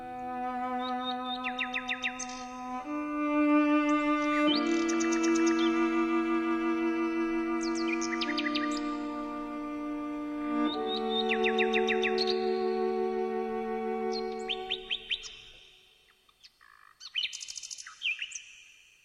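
A nightingale in Beatrice Harrison's garden in England sings in bright, rapid chirps and trills over slow, sustained cello notes, then carries on alone for a few seconds after the cello stops.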